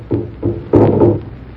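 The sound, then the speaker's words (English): A drum beats slowly with deep, booming thuds, three strikes in a steady rhythm, the last one heavier and ringing longer. No voices, just the resonant pounding. “The drum. It's getting louder.”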